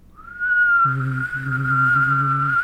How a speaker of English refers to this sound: But normally the trick is you start by whistling and then you add the hum afterwards.